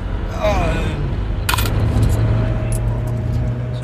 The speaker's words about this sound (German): Auf jeden Fall Kleingeld. Also, hier kostet 4,40 Euro Maut.